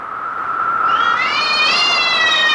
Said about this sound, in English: Thrice the branded cat hath mewed.